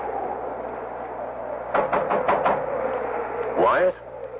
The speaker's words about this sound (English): I'll knock.